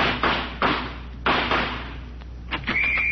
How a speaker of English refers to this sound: Okay, now listen. I'm going to fling this door open. When I do, I'm going out shooting.